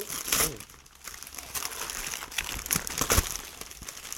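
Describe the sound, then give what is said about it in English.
Continuous crinkling of wrapping paper being torn open and crumpled as a gift, a Wolverine comic book, is unwrapped, with irregular crackly bursts and a few sharper rustles, no voices. “Oh, this is a lot of wrapping paper.”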